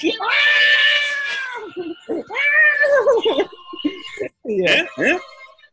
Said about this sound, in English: Guys, we have some audio. We have some audio of all the cats celebrating on 9/11.